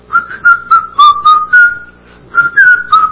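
A person whistles a bright, bouncy tune, with short, clear notes moving up and down, a brief pause partway through, then the melody picks back up. No one speaks.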